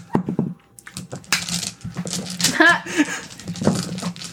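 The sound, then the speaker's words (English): Dice clatter and tumble across a tabletop in a burst of quick, hard clicks and rattles, with people talking in the background throughout. “All right, dice. Join the ranks.”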